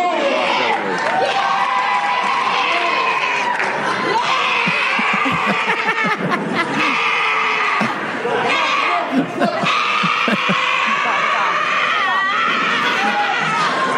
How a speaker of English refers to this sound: She lifts a second time, and you wouldn't believe it. She's back to screaming.